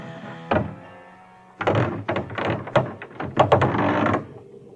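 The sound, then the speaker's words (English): A single hollow thud on a village priest's door late at night, then after a short pause a loud, rapid flurry of knocks, insistent, over a faint low hum. “Who knocks so late in the night?”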